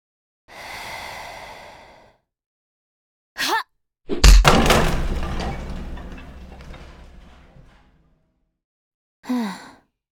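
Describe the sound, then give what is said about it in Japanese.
A breathy sigh and a short thump, then a door is kicked in with a loud crash, followed by rattling, splintering debris that fades over several seconds. One last brief thud, and no speech. “この程度の扉、昔は蝶つがいごと吹き飛ばしていたのですが、自分を絶対に守ってくれると思っていた扉があっさり蹴破られて腰が抜けましたか。”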